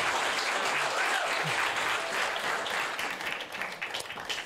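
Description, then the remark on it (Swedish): An audience at a church service applauds Jesus steadily, a dense wash of many hands clapping at full strength before gradually thinning out toward the end. “Ge Jesus stora applåd.”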